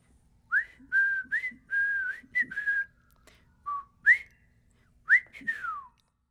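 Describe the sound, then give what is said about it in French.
A man whistles a short, lilting tune as he walks away, a run of clear pitched notes in phrases with brief pauses between them, with no talking. “Il a remercié les petites gens et est parti en sifflant.”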